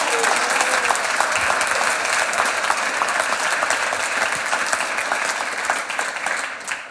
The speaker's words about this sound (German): ich bitte jetzt einmal um einen großen Applaus für Innenpolitikjournalistin Dr. Anneliese Rohrer und der Applaus kann gleich weitergehen.